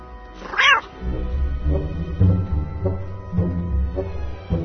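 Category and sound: animal, cat meowing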